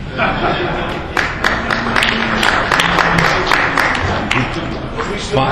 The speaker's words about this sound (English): Fine. I love it, the boos and the claps. Thank you very, very much. I appreciate that.